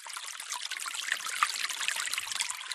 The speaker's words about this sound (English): Melting snow. Where does it melt first? What influences its course? Which way will the water channels run? And what will happen if the process is speeded up by warmer temperatures?